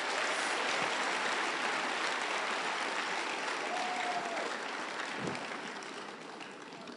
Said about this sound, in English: Clap unto the Lord.